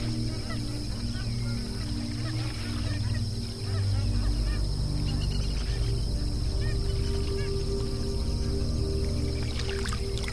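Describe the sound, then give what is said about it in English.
A dense chorus of geese honking continuously at a billabong, many birds calling at once over a steady low rumble, with no pauses across the whole stretch. “The billabong offers the geese more than just a place to cool off.”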